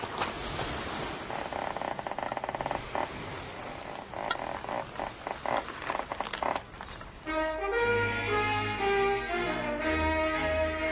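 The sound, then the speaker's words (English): Steady rushing wind with a ship's mainmast creaking in a series of short, uneven groans, then a longer, sustained creak with a ringing, tonal quality, fairly loud with no talking; a sound effect of the mainmast of HMS Victory, Nelson's flagship at Trafalgar. “And today, the first sound effect in the audio victory is the mainmast creaking in the wind.”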